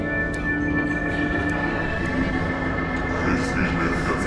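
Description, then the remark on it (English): A steady, loud rumble of a moving train heard from inside a carriage, with a constant low drone, faint mechanical whines and occasional rattles, unbroken throughout. “Welcome aboard the southbound Lassitude 432 to Grimtown.”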